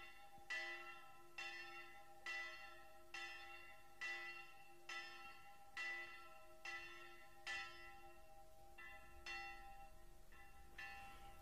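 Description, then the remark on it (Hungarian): A church bell tolls steadily at noon, about ten evenly spaced strikes with long ringing overtones that blend into one another, heard clearly with no voices. “Ott a tarisznyát fölakasztották az ágra, maguk meg alája feküdtek, úgy várták a déli harangszót.”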